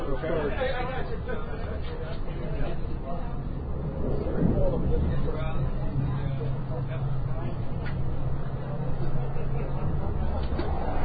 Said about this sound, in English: This is definitely a new dining car. It's something we've never seen before. Yeah, maybe they've added it. I do like single levels more than double deckers.